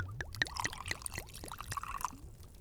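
Water pours steadily into a glass, a bright gurgling stream with rising bubbly splashes for a couple of seconds, no voices.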